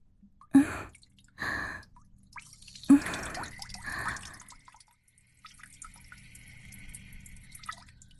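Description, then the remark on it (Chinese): Short, stop-start bursts of a urine stream splashing into toilet water, four spurts in the first half, followed by a faint, steady trickling hiss. No voices. “尿起来怎么断断续续的？马桶会吞咽不及的。”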